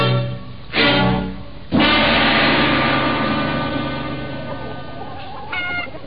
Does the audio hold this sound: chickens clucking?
yes